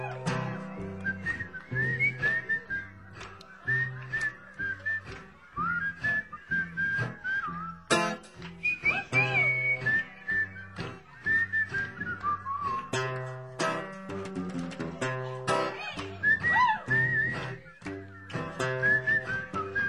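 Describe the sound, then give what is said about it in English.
Several people whistle a bright, steady melody together, carried over a full musical backing with a thumping bass line and rhythmic beat, loud and continuous throughout with no talking. “Everybody whistling.”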